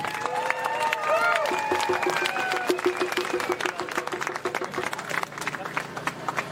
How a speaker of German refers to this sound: Und einmal einen herzlichen Applaus